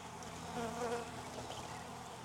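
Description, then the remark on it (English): A dense, steady drone of many honeybees buzzing around an open hive as a beekeeper searches it for the queen, their overlapping hum swelling slightly midway and continuing without pause; no one speaks. “or I could just leave her in here and move this hive a little bit and let these bees go into that other one that I just put the mating nuke.”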